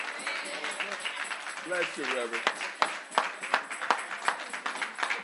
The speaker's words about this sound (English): Let's give God a hand clap of praise for this message, this real-life message.